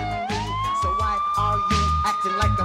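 A police siren swells upward and holds a loud, steady wail, with a heavy thumping beat pulsing beneath it throughout.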